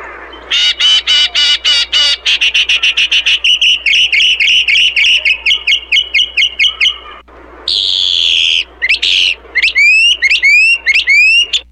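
A pet bird named Billy whistles and chirps loudly on its own, starting with rapid repeated trilling notes, then choppy chirps, and ending with a series of bright, rising whistle sweeps.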